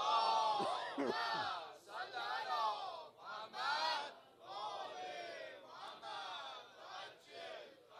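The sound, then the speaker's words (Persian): A large crowd chants a salawat together in loud unison, many voices blending into a sustained, rhythmic recitation that rises and falls in several phrases. “حالا صلوات بفرست.”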